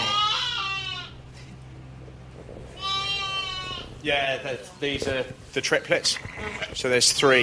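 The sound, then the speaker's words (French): Ewes carrying twins on a sheep farm bleat twice, loud, each call a long quavering cry with a pause between them, then a voice starts talking over faint farmyard background. “Ces brebis-là portent des jumeaux.”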